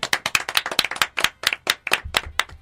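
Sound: group clapping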